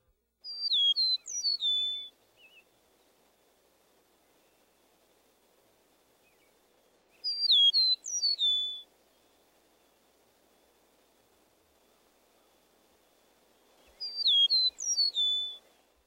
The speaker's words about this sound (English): Let's move on to a new whistler, the eastern meadowlark. We introduced this species earlier. Spring of the year.